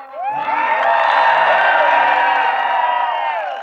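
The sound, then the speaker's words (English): A crowd cheers loudly for the high and low car, with many overlapping shouts, whoops and high-pitched yells forming a dense, steady roar that holds for several seconds before easing slightly at the end. “Ladies and gentlemen, make some noise for high and low car.”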